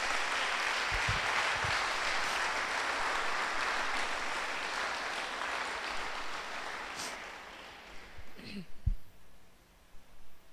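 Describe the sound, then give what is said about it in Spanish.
A crowd applauds steadily for "the King", a dense wash of clapping that fades out near the end, leaving a few scattered sounds and a voice beginning to speak. “Le damos un aplauso al Rey.”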